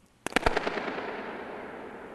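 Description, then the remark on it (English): A single sharp pop of one balloon inside the dome of a spy station in Germany, followed by a rapid, evenly spaced train of ringing focused echoes that flutter and slowly fade into a long, hissing reverberant tail. No one speaks. “So let's listen to the sound of a balloon being popped at the spy station in Germany.”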